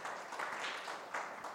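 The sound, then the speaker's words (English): A short stretch of audience applause during a sermon, given for Yeshua: dense, overlapping clapping forming a steady, fairly soft wash of noise with slight swells, no voices heard. “Yeah, you can give him some applause.”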